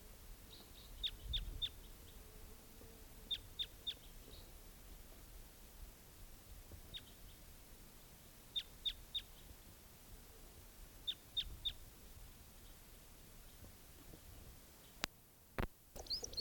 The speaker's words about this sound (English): Is that same bird? Stop. Where's that bird?